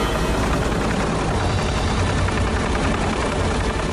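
A loud helicopter, rented in Kenya, roars steadily, its rotor thumping in a rapid, choppy rhythm beneath a dense wash of engine and wind noise, with no voices.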